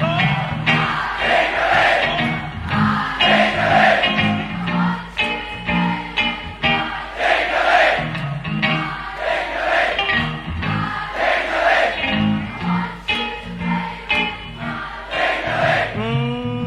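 A large crowd sings along together in loose unison, voices swelling and falling in a steady melodic rhythm with loud, sustained phrases and no lead voice standing out.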